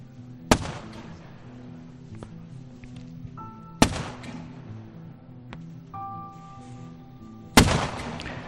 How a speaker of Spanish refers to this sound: Hace frío, estamos cerca de los 0 grados, el invierno aún no ha llegado, imagínate. El lugar donde estamos es una zona boscosa y en mitad del silencio se escuchan las maniobras y los disparos.